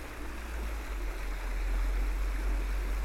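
Churned-up brown river water flowing under a little stone bridge on a footpath in hazy winter light, a steady, continuous rush with a broad noisy wash and a deep low rumble underneath, unbroken throughout with no voices.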